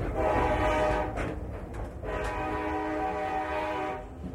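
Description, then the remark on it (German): A train horn blares in long, sustained harmonic tones over the low rumble of a train passing on the old historic Louisville and Nashville Railroad line across the Hiawassee River, loud, with a brief dip before the horn sounds again. “Auf der gegenüberliegenden Seite des Hiawassee River verläuft die alte historische Eisenbahnstrecke der Louisville and Nashville Railroad, deren Gleis durch Landstriche führt, die für den übrigen Verkehr unzugänglich sind”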